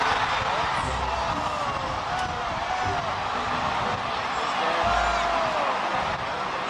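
A dense outdoor crowd at the 1997 Macy's Thanksgiving Parade roars continuously, with excited shrieks and whoops rising above the steady wash of many voices, loud throughout, as float handlers and police try to control a massive Barney balloon float struck by high winds.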